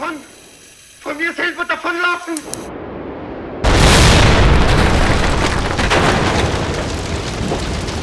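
A brief voice-like sound fades into a short hush, then a loud gas explosion from a gas leak, set off as a gas stove is turned on for cooking, bursts in and keeps roaring as a broad, rumbling blast that rolls on steadily without dying away.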